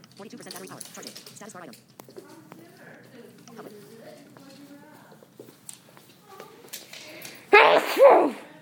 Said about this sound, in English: bless you. Thank you. Well, it happens after I eat, so.